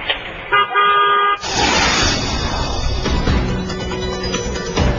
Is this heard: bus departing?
yes